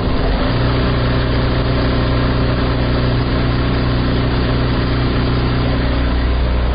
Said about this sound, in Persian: در این شب و روزی که کمتر از 5 روز بر عید سعید قربان مانده، خیاطان و گلدوزان نیز مصروف کار در عقب ماشین های گلدوزی نشسته و برخی دیگر در اتوکاری و بسته‌بندی کالاهای عیدی دیده می شوند.